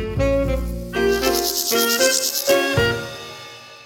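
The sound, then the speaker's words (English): A grasshopper stridulates, a loud, continuous buzzy rasp broken by several sharper scraping bursts, with no voices. “So it's the reason why they stridulate or make this noise is to tell other males to go away and bring in the females.”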